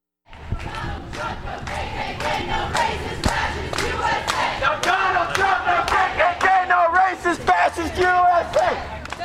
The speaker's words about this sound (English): Like many of the anti-Trump actions around the country this past weekend, the marchers' chants focused on racism and fascism.